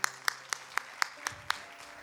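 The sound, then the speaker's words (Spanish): Sharp hand claps land in a steady, even rhythm, about seven in two seconds, crisp and bright over a low background hum, with no one speaking; applause given to the Lord. “Así que quien sabe eso, denle un aplauso al Señor.”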